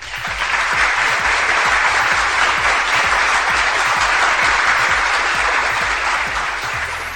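Sustained applause from an audience, a dense wash of many hands clapping that swells in within the first half second and holds steady and loud for about seven seconds, with no voices over it.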